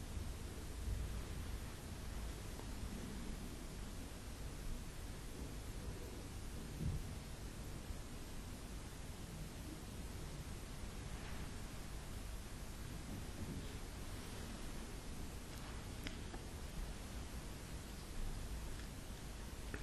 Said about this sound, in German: Und du hörst das Rauschen des Waldes. Den Wind, der die Wipfel wogen lässt.